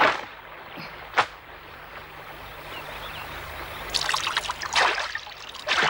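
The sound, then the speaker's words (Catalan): A thin stream of urine trickles and splashes onto a rock, steady, with one sharp swish early on and a fuller, hissing spatter building toward the end. No voices. “Damunt d'una roca es despulla i fa pipí.”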